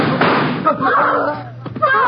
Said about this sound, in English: You shot my Pa. You shouldn't have shot him. You didn't have to kill him.